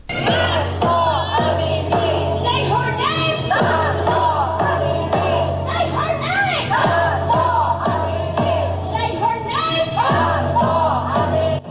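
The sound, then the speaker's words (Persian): Thousands of Iranians at a Saturday protest in Washington, D.C., chant the name of Mahsa Amini in a steady rhythmic cadence, voices rising together in repeated shouted phrases, loud, filling the whole stretch with no pause. “اما روز شنبه در پایتخت آمریکا، واشنگتن، همزمان با دیگر شهرهای جهان، نام مهسا امینی توسط هزاران ایرانی فریاد زده شد.”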